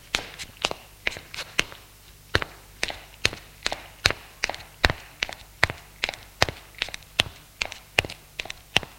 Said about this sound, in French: Deux heures du matin, il sort de la chambre. Personne. Il descend les escaliers.